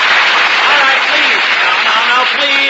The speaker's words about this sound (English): applause. Don't encourage him.